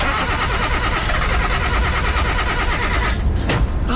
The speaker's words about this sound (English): The car's not starting.